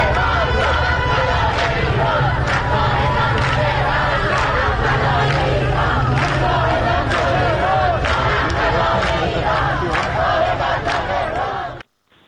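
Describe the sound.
A crowd of women gathered in front of the train platform at Enghelab metro station chanting the protest slogan "Woman, Life, Freedom" together, loud and steady for about twelve seconds, rhythmic shouted voices over a dense, echoing babble before cutting off abruptly.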